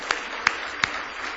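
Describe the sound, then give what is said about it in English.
An audience clapping in praise of the Lord Jesus: three sharp, evenly spaced claps stand out over a soft, continuous wash of scattered hand clapping, with no voices. “Somebody give the Lord Jesus a big hand clap of praise.”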